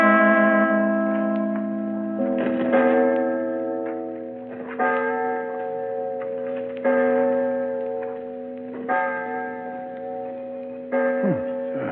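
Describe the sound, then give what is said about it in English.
A clock strikes the hour with about six slow, resonant bell tones, each ringing out and overlapping the next at steady two-second intervals. No voices are heard. “Clock”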